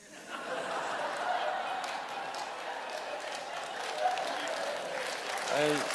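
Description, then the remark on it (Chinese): Sustained applause from the brothers of a Christian audience during preaching, a dense steady clatter of many hands clapping, with faint chuckles mixed in and a brief voice near the end. “哎，你们鼓掌都弟兄，我发现给你们出口气，我告诉你真是如此，反差大。”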